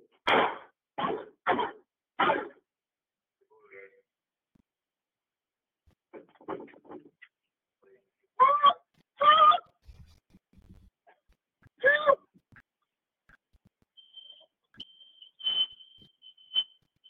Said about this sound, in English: Those are the fire alarms going off because she's fired up.